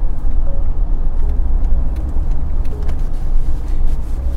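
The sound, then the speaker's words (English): A car engine rumbles steadily with a deep, continuous road hum as the vehicle rolls slowly into the Flying J trucker gas station on Portage, on the outskirts of Winnipeg. Occasional faint clicks sit over it, and nobody speaks. “Arriving at Flying J.”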